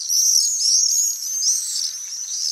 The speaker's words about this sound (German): Es sind Mauersegler, kleine Vögel, die sehen so ein bisschen aus wie Schwalben.